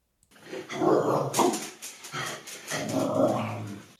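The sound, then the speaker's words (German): A dog growls and barks agitatedly in several rough bursts, fairly loud, with a snarling, throaty edge throughout and no one talking. “Was geht in dir vor, wenn dein Hund jemanden oder etwas anknurrt oder sogar schreiend in der Leine hängt?”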